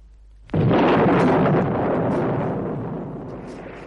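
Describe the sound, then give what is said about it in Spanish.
A loud thunder clap cracks suddenly after a brief quiet moment, then rolls on as a dense, rumbling roar that slowly fades, with a steady hiss like rain beneath it. “Un trueno que estalla en el cielo, unos picos y unas palas que cavan en la tierra.”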